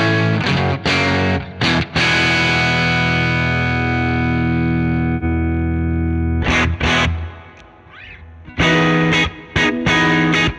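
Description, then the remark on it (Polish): Overdriven electric guitar through a simulated Greenback speaker cabinet, the same speakers used in a Marshall test: a loud distorted chord rings out and slowly decays, followed by short choppy chord stabs and a few more punchy strums, with no talking. “Więc dajmy greenbacki z ciekawości. Te, co były w teście Marshalla.”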